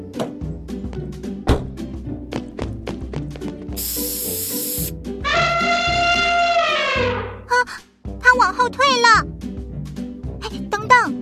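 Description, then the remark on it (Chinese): A hot pepper spray is sprayed from a car at an angry elephant charging toward it, letting out a single loud, hissing burst lasting about a second, heard over a busy background of voices and other sounds, followed by a long, wavering cry. “但继续留在车内什么也不能做，不如来试试我们研发的火辣喷雾吧。”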